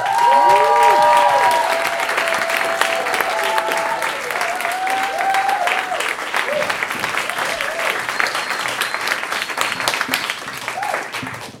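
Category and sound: crowd, audience applause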